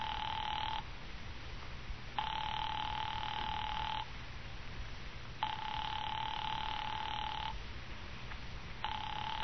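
A telephone rings repeatedly with no answer, about four steady electronic ring bursts separated by short pauses, heard clearly over a faint line hiss, with no voices.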